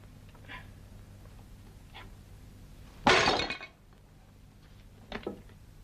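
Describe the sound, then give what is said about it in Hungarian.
A sudden loud crash of breaking glass, bright and clattering, lasting under a second, followed by a few faint tinkling clinks of scattered pieces against a low background hum. “Bocsánat, csak valami csörömpölést hallottam”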